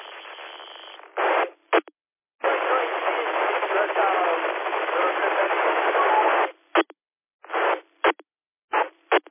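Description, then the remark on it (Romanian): Loud bursts of band-limited radio noise cut on and off abruptly: a long hissing squelch tail with faint garbled modulation underneath, followed by several short crackling keying bursts. “Aude foarte tare coada aia de la, de la stație, de acolo, dar modulație mai puțin.”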